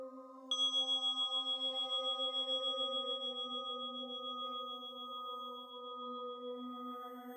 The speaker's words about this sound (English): Allowing the chime to invite a sense of wonder, awe, openness.